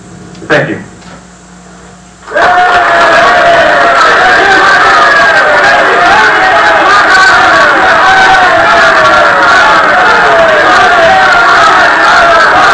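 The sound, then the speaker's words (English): A brief quiet opening with a single knock, then a large crowd suddenly erupts into loud, sustained shouting and cheering, many voices overlapping in a dense, steady roar. “Those honest, hearty shouts and the trust on the faces of those simple but wise people have meant more to me than all the honors I have received and all the reputation I have ever made.”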